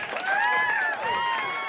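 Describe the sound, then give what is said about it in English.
Enthusiastic applause from a crowd, steady and fairly loud throughout, with voices calling out and cheering over the clapping. “Enjoy the enthusiastic applause.”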